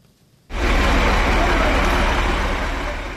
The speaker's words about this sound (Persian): ماشین های باربری گران وزن از محله گلبوته شهر دوشنبه شب و روز می گذرند.